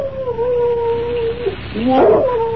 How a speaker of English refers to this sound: I'd have sworn I heard something out here. Oh, what's that? Just a shadow, I guess. But just the same, a dog. That's what I heard.